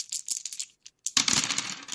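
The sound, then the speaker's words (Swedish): Dice being shaken and thrown for a game of Yatzy: a brief patter of light clicks, a short pause, then a louder burst of clattering and rattling as the dice tumble and settle. No one speaks. “Det är kasta tärningar och spela Yatzy.”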